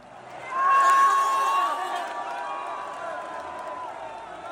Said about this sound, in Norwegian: Her hører vi lyden av tusenvis av rødkledde nordmenn som feirer at Erling Braut Haaland dunker inn Norges første mål I VM I natt.